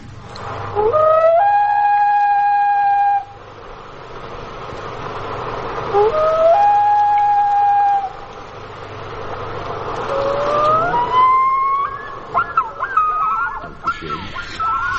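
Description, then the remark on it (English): Great northern diver song: a series of long, mournful wailing calls, each sliding upward then holding a steady mid-high note, repeated about four times over a steady background hiss. “Frozen Northern Wastes, the song of the great northern diver.”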